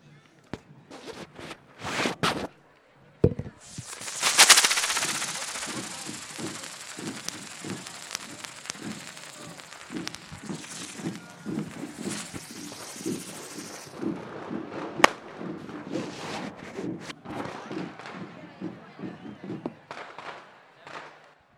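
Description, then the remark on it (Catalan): Sharp firecracker bangs pop in quick, irregular bursts at the Santa Tecla festival, over a crackling, hissing roar, with a lively crowd and voices murmuring underneath throughout. “Santa Tecla és aquí, amb petards i molt xivarri.”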